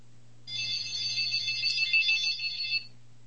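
A telephone ringtone trills steadily for about two and a half seconds, bright and fairly loud, over a low steady hum with no voices.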